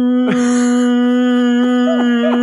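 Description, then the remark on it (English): A voice imitates a whale song: one long, loud, droning moan held at a steady mid pitch, opening with a downward swoop and broken later by a couple of short rising-and-falling warbles. “You know what a whale song sounds like? It sounds like...”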